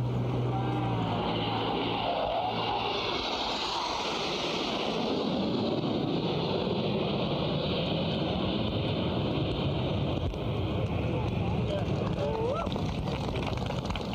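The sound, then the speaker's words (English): An aircraft flyover at the ribbon-cutting ceremony opening the Richard I. Bong World War II Heritage Center: the steady engine roar swells loud and broad before holding and slowly fading, with faint crowd murmur and wind beneath. “Here's the flyover.”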